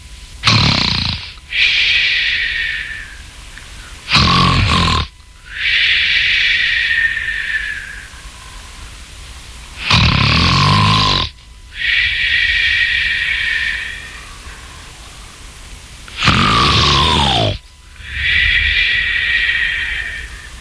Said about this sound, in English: The magic harp began playing such a sweet lullaby that soon the giant fell asleep and began snoring loudly.